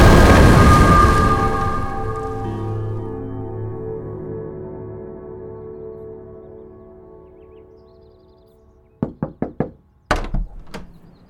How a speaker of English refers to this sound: I cannot keep it open. And when the doors shut... When they shut... what?